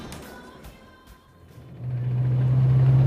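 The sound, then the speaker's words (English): A car engine rumbles low and then swells into a loud, steady drone as it revs up and pulls away, with no talking. “I got a car outside.”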